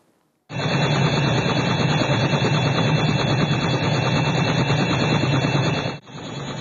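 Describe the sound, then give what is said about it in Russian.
A helicopter carrying Metropolitan Feodor of Volgograd and Kamyshin, flying over the Sady Pridonya enterprise's territory in the Volgograd diocese during an aerial procession, its rotor chopping rapidly and steadily over a loud, continuous engine whine, starting abruptly after a brief silence and holding constant, with a short dip near the end. “Митрополит Волгоградский и Камышинский Федор на вертолете облетел территорию, на которой располагается предприятие «Сады Придонья».”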